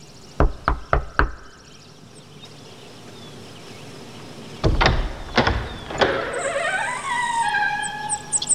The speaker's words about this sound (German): Justus klopfte an der Tür und der Regisseur öffnete.